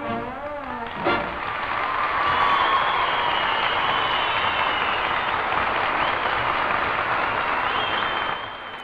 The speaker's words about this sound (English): Oh, yes, indeed, indeed. Wild applause, it has to be said, for boys and girls at Enser, or where else.